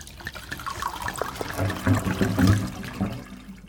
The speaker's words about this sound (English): I'm pouring this smoothie down the sink. It's no replacement for pancakes.